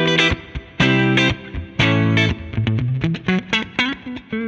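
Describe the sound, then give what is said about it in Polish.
A distorted electric guitar plays chords and short riffs through an amp with both tone filters open, high and low each set to 5, full and bright with strong low end, sustained chords alternating with quick choppy stabs, no voices. “Jeżeli chcemy pełni brzmienia, to otwieramy oba filtry, czyli dajemy high na 5, low na 5 i teraz to brzmienie jest”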